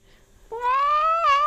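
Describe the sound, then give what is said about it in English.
A single drawn-out meow from a male cat at a home in Eastern Massachusetts, loud, rising slightly in pitch and then wavering near the end, with no one talking over it. “He just likes to complain, and then if you put him back down, then he's gonna meow again.”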